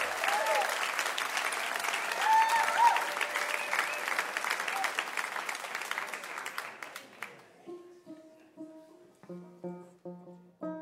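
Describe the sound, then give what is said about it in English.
A crowd applauds in a dense, steady wash of clapping that tapers off after about seven seconds, giving way to bright clawhammer-style banjo notes picked out one at a time. “Well, an applause even.”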